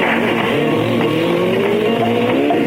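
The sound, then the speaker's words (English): A motorbike engine revs loudly, its pitch climbing and dropping through a few gear changes as it pulls off with no voices over it, ridden around Britain to bring back road reports for Radio 1. “he goes round on his motorbike all over Britain and brings back road reports.”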